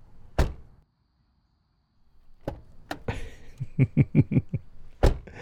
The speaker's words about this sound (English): No, I got the door for you. Yeah, here.